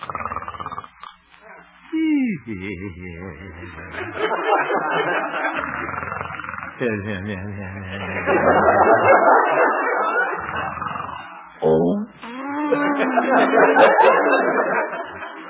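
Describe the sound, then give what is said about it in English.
In a radio drama, the character Honest Harold the Homemaker snores gently at night in his little house on 8th Avenue while having a pleasant dream: slow, repeated buzzing breaths, mixed with contented murmurs and soft chuckling hums, the low voiced rumble rising and falling over about fifteen seconds. “Looking into the little house on 8th Avenue, we find the town's most popular radio figure, Honest Harold the Homemaker, gently snoring and evidently having a very pleasant dream.”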